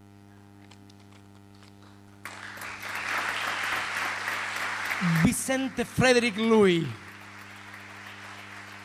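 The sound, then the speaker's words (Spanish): After a quiet, humming start, a concert crowd bursts into sustained applause for several seconds for the reader, Ariel Minimal, at a poetry concert for poet Vicente Louis at the Usina del Arte in Buenos Aires on 6 May 2017; a man's voice speaks over the clapping before it fades. “Los aplausos para el lector, en este caso Ariel Minimal, y la poesía de Vicente Louis, más viva que nunca en este concierto, Vicente, por sus amigos, en la Usina del Arte en Buenos Aires, el pasado 6 de mayo del 2017.”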